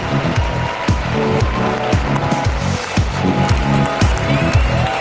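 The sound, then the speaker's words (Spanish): An audience on a TV show applauds steadily, the dense clapping blending with upbeat music that has a regular thumping bass beat and sustained tones, all fairly loud throughout. “Un aplauso para Milton y su amo.”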